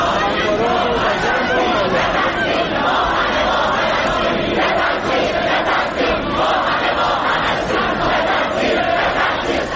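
A large crowd of students chanting and shouting together in protest at a university ceremony for those killed when a Ukrainian passenger plane was shot down, a loud, dense wall of voices that keeps up steadily throughout, with no single speaker standing out.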